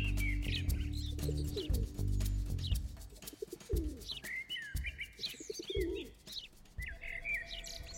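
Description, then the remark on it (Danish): A mix of birds calling: house sparrows chirp busily, pigeons coo low, and a blackbird calls, all continuous, over a low rumbling hum during the first few seconds. “Altså, jeg har spurgt ham, og han har sagt, at der vil være spurve, formentlig gråspurve, duer, solsort.”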